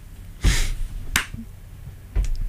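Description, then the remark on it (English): Heavy, booming stomps alternate with sharp hand claps in a slow stomp-clap pattern, four hits in all, loud with no talking. “Oh, I like just anything where it's like stomp, clap, stomp, and then it's just like something about making some noise and just boys.”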